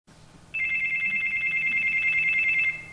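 A man's cell phone rings at the next table in a restaurant with a rapid, warbling electronic trill that holds steady for about two seconds, fairly loud, over a low background hum with no talking.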